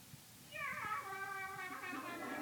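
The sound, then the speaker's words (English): The voice actor voices a robot cat on a TV show, giving one long, drawn-out meow that begins after a brief quiet moment and holds steady and fairly loud with a slight warble through to the end. “I bet …'s doing the voice for the cat.”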